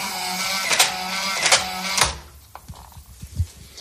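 An apartment's electronic door lock whirs mechanically for about two seconds as it locks, with a few sharp clicks, then cuts off into quieter scattered clunks and taps.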